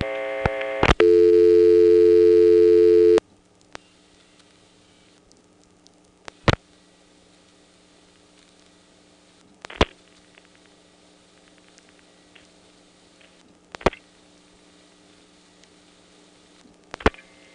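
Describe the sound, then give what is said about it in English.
A 1977 recording of a call through a telephone exchange from a rotary dial phone to a 491 supervision test: a steady telephone tone sounds for a few seconds and cuts off, followed by a quiet line hiss broken by sharp mechanical clicks and clunks of the selectors switching at irregular intervals as the digits are dialled. “The 49 makes the register sender drop, and then the last five digits control the selectors directly.”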